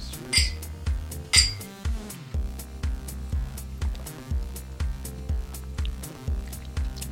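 Two quick, bright glass clinks ring out close together near the start as people toast with a tangerine drink, over a steady, rhythmic music track with a thumping bass beat that continues to the end.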